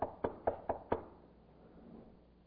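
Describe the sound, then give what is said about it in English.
Five quick, firm knocks on a wooden front door in a steady rhythm, fairly loud, followed by a quiet pause with faint background noise. “But anyway, I'm coming up to the door and going to knock.”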